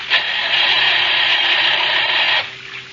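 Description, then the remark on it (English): A car engine cranks without catching: a loud, steady, rasping whir for a little over two seconds, then it cuts off abruptly, leaving a faint hum. “Oh, gosh, he won't start. Maybe some water got into the engine.”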